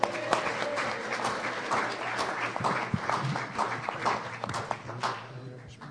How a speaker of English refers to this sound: What I would like to do now is give this, give the presiding of this general session over to our second vice president. Give a warm round of applause for Roger Peterson.